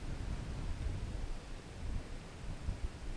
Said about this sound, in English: And as you follow the hound, you come to the clearing in the center of the woods. And you feel the wind, the sound of the wind and the rain